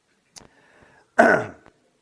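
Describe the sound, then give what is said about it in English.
In an audience, a short sharp click, then a loud rough throat clearing burst that fades over a moment, with a faint cough-like tick after, with no talking. “I heard a lot of other coughing going on here.”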